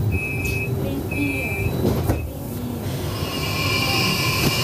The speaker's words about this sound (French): Je vous propose aujourd'hui d'aller jusqu'à Montreux en prenant le bus. Oui, vous avez bien compris, on va prendre la ligne 201 ensemble. On y va ?